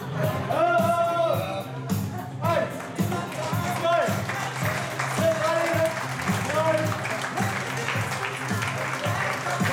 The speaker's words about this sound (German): Mit einer eindrucksvollen Vorführung begeisterten sie die Gäste und sorgten für viel Applaus.